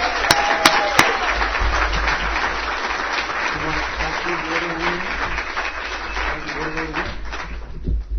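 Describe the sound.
Sustained audience applause welcoming a speaker, a dense wash of many hands clapping at steady loudness for several seconds, with a few sharp taps at the start and faint voices murmuring underneath.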